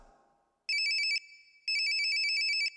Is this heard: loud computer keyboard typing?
no